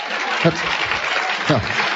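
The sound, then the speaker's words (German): An audience claps steadily for a correct answer to a quiz question, a dense, continuous wash of applause, with a voice briefly speaking over it a couple of times. “Also die erste Frage ist richtig. Applaus.”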